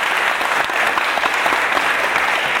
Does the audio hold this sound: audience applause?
yes